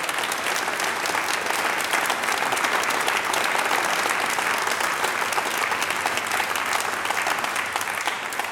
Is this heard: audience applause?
yes